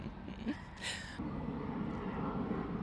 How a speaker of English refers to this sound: Plane. Okay, I know what I find the most annoying today is the planes.